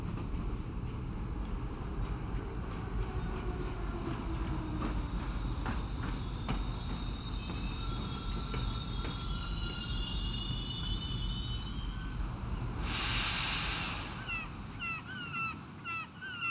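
A train rumbles steadily along its rails, then brakes with a bright hiss and high squealing tones, the low roar easing off as it slows to a stop at a rural station built near the coast.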